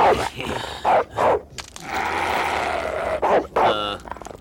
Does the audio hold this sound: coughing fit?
no